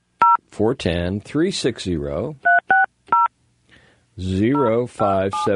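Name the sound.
telephone keypad dialing tones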